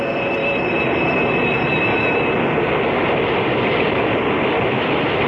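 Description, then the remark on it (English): An electric commuter train slows along a platform, its heavy, steady rumble topped by thin high-pitched wheel squeals that fade out after a couple of seconds, with no voices. “they exchange idle small talk, till the big shiny electric cars skitter to a stop along the platform, and they scatter aboard and scramble for seats.”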